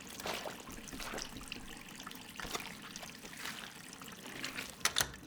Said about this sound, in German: Ich stell den Wasserhahn ab.